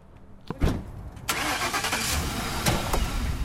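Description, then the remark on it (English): A car engine cranks with a short starter whir, catches, and settles into a steady running hum, moderately loud, with no voices, as the car is driven to a home in the Bayview district. “We drive over to the woman's home in the Bayview district,”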